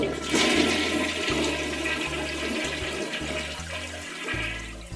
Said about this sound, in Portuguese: É um puxar de descarga, né?